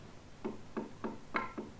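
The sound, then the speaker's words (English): Five quick knocks rap on a door in a steady, even rhythm, fairly soft, with nothing else sounding around them. “That was a knock.”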